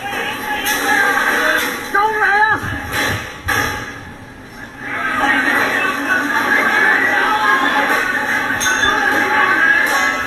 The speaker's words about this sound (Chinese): 其实大家都听到啦，都有啲枪声啦，可能系释放催泪弹或者系橡胶子弹嘅时候枪声嘅。